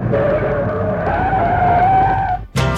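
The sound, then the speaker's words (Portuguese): A loud, sustained tire screech as a fast-moving car brakes hard, a shrill wavering squeal over rumbling engine noise, cutting off abruptly before a brief burst of different noise. “A velocidade que eu vinha, não sei. Pisei no freio, obedecendo ao coração, e parei.”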